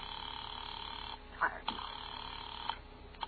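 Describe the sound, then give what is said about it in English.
A telephone being dialed to call the police: a handful of sharp, irregular clicks over a steady, band-limited hiss, moderately loud, with no one speaking. “I'll call the police.”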